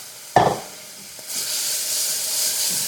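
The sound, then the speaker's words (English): Brown sugar and water cooking in a pan on low heat to make candy: a brief sharp burst, then a steady, bright sizzling hiss that swells and holds at moderate loudness, with no talking. “My brown sugar is cooking. Hopefully not burning.”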